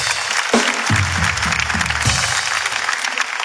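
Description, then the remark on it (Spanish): An audience breaks into steady applause for Panama, a dense wash of clapping that stays loud throughout, with faint low voices murmuring underneath. “Un fuerte aplauso para Panamá, que nos mira mucho.”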